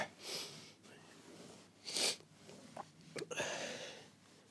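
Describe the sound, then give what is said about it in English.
Several short, breathy nasal sniffs, a soft one near the start, then a sharper pair of quick sniffs, with a low hum of background noise between them. “Sorry for the sniffles.”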